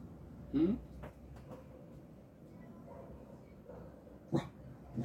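dog barking and whimpering

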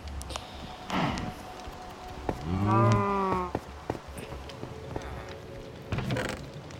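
cows mooing

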